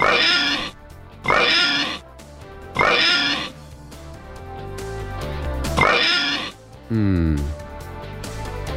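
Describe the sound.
Four loud, rough pig oinks come in quick succession, each a short harsh burst, over a low music-like background, ending with a brief rising tonal sweep.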